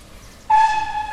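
train horn tooting

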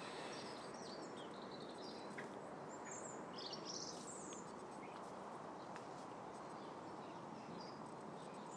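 small birds chirping outdoors

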